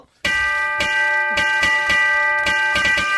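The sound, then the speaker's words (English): Bright ringing bells play a quick Christmas tune, loud, with a steady run of struck notes over a sustained metallic shimmer. No voices are heard. “I don't think that was that a Christmas song? That was yes. Jingle Bells.”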